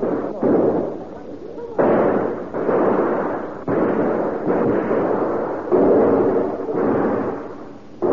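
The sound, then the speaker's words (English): A volley of gunfire from a group of men shooting at a warehouse: loud, booming shots go off about once a second, each with a sharp crack followed by a rumbling decay that runs into the next, forming a steady barrage. “Your fire, men.”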